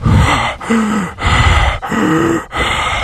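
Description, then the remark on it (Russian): A voice imitates the heavy breathing of Russian specialists standing behind someone: about five loud, rhythmic huffing breaths in quick succession, each with a throaty, groaning edge, and no words spoken. “Вот так вот сзади дыхание российских этих специалистов, которые будут где-то рядом будут стоять все время.”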